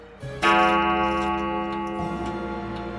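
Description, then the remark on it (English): A clock chime strikes once with a bright, resonant ring that hangs in the air and slowly fades. It is fairly loud, with no voices, and sounds in a palace during a ball, near midnight. “Suddenly, the clock chimed.”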